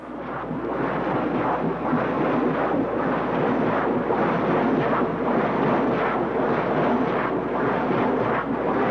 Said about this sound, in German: Und Containerschiffe, die hört man eben aus mehreren Kilometern Entfernung unter Wasser. Das ist so ein lautes Wummern, das man auch beim Tauchen als Mensch gut hören kann.